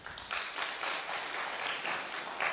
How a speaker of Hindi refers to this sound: Yes, आप please इनके लिए ताली बजाएं.